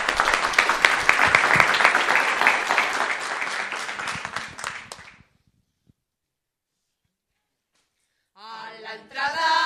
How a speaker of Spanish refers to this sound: Gracias, Villada, un aplauso para todos.